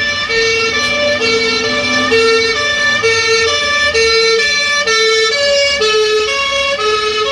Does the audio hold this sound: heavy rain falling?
no